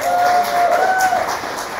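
An audience claps steadily in a dense, continuous burst of applause that fills the room, with a thin sustained tone sitting faintly above the clapping.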